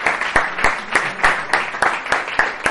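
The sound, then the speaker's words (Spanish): A crowd applauds steadily for a few seconds, a dense wash of clapping with sharper, evenly spaced claps punching through at a brisk rhythm. No one speaks. “Así que, oye, quiero dedicar ahora mismo un aplauso para todos vosotros, porque os lo merecéis, y por curiosos.”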